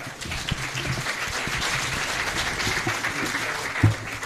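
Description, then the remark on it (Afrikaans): A crowd at the presentation of the book Op soek na Jesus applauds the editor of Die Kerkbode, a dense wash of many hands clapping at an even level for several seconds, with a brief louder thump near the end. “Kom ons gee vir my lekker hande klap.”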